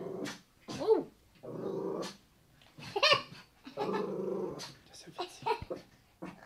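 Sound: dog growling and barking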